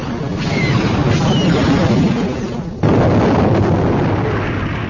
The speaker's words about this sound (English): the second torpedo group hit, blowing out an impressive cloud of shattered hull metal and transparasteel.